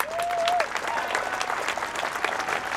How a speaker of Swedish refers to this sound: Ja, här hörde vi teaterchefen … som möts av rungande applåder. Måttet är rågat, står det på stora svarta banderoller, och tusentals svartklädda kulturarbetare har samlats framför riksdagshusets trappor och ända ner till biblioteket Ode.